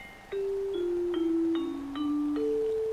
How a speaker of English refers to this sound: Oh, that was the bell, and that means that this podcast is coming to an end.